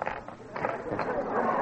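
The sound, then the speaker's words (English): A Deluxe Bridge folding table being set up: a quick run of uneven wooden knocks and clatters, then a steadier rustling scrape, all fairly loud and lasting under two seconds. “You hear us setting up the Deluxe Bridge table.”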